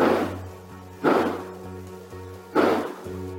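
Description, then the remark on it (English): Three sharp, booming gunshots ring out at uneven intervals, each trailing off briefly, over a steady electrical hum and hiss, recorded by a neighbor's home surveillance system around 10 p.m. “A home surveillance system from the neighbor captured these loud bangs around 10 p.m. that night.”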